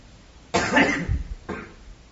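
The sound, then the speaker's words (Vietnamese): A loud cough bursts out into the microphone, followed a moment later by a second, shorter and softer cough. No one speaks. “Cứ ho hoài, anh ho nó vô máy của tôi á, tiếng ho lớn lắm đó.”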